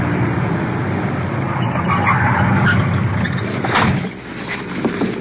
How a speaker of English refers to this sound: We're stopping the car now.